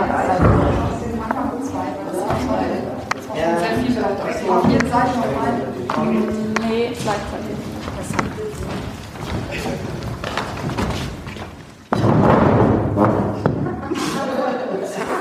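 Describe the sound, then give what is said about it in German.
Several people talk at once while furniture is moved: scattered wooden knocks and scrapes as tables and chairs are carried and set down, sharpest near the end. “Ich hol auch meinen Stuhl. Du konzentrierst dich auf deinen Stuhl. Okay, gut, aber wir brauchen jetzt nicht 25 Tische, glaube ich.”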